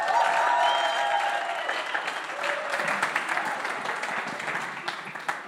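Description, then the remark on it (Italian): An audience at a Sunday service of the Chiesa Vita Nuova church breaks into sustained, steady applause welcoming Pastor Miki, a dense wash of many hands clapping with some tonal murmur underneath, gradually thinning toward the end. “Questa mattina non predicherò io, ma vogliamo accogliere Pastore Miki con un applauso.”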